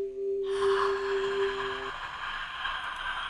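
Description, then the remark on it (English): A loud, forceful breath rushes and hisses for about three seconds. A steady low hum sounds under the first half, and no one speaks. “No, but you're breathing aggressively, okay?”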